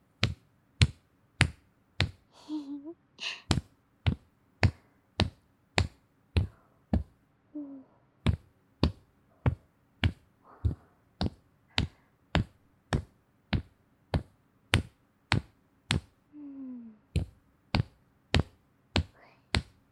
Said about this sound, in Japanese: 首の周りをトントントンタンって叩いて、血行とかも良くしていこうね。